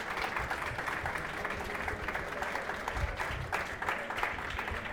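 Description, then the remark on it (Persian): Steady, dense applause from an audience for prize winners being called forward, a continuous wash of many hands clapping at an even loudness throughout, with no single voice standing out. “تشریف بیاریم، تشویقشون کنیم.”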